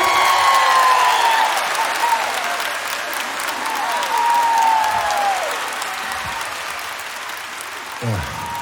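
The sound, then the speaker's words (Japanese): Sustained audience applause as a bass vocalist is introduced, a dense steady wash of clapping that runs the whole length, with a few brief whistles and cheers rising over it before it gradually thins toward the end. “盛大な拍手を。”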